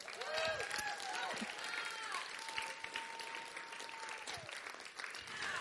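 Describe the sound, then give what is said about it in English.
An audience in Alaska claps in a dense, steady burst of applause that fills the whole stretch, with a few high whistles and cheers rising above the clapping. “Now, here in Alaska, yes, let's clap.”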